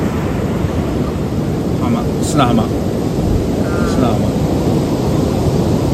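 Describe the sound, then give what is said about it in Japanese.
A steady, loud roar of ocean waves breaking on the sandy beach at Kamogawa, with the Kamogawa Grand Hotel behind, fills the whole recording, with wind mixed in and a couple of faint, brief voices. “すごい波の音が、 ね、次は鴨川の浜に来ました。”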